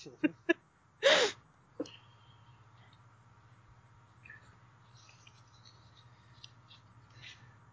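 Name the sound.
pencil writing on paper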